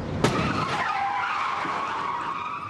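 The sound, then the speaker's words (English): A car crash in a Volkswagen advertisement: an SUV slams into a sedan with one sharp, loud impact early on, then sustained screeching and scraping as the vehicles grind and skid, with no voices. “It's a brutally frank look at the physical chaos that results when an SUV enters your sedan without an invitation.”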